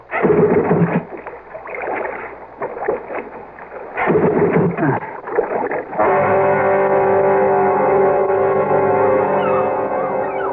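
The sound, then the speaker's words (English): A small boat motor that has died while the boat drifts coughs and sputters through several rough, uneven starting attempts, then catches at about six seconds and settles into a loud, steady running drone. “Oh, the motor's died. And the boat's drifting. You stay right there, Rob, while I get it started.”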